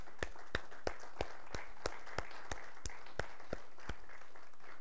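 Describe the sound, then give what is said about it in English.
A church audience claps for the Lord during a morning service, clapping together in a steady, even rhythm, about three sharp claps per second, over a soft wash of room noise, with no one speaking. “Let's just give the Lord a hand clap this morning.”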